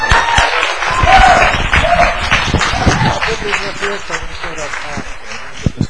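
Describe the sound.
An audience applauds steadily for about six seconds, a dense, loud patter of many hands clapping at once, with a few voices calling out over it.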